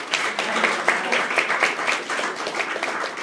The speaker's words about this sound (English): How about a round of applause for all of us?